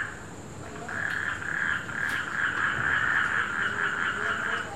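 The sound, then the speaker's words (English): A dense chorus of hundreds of frogs croaking together during the monsoon in India, a continuous buzzing, pulsing din that swells in after a moment and stays loud and steady throughout, with no voices present. “Nature has its own music too, like hundreds of frogs croaking in ecstatic chorus.”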